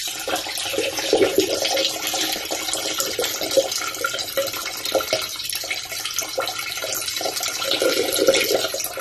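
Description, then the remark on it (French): Liquid pours steadily into glasses, as when Lisa pours the glasses in the film The Room: a continuous splashing, gurgling hiss that carries on for about nine seconds at an even, moderate level, with no voices. “Ou bien le son dans The Room, là, quand Lisa verse les verres.”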